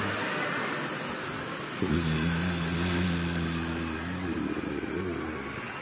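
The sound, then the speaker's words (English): A group of people, asked to join in, imitate bumblebees with a low, steady buzzing hum that starts abruptly and holds for about two and a half seconds over a constant background hiss, then fades back. “So some of the gopas were imitating the sound of the bumblebees.”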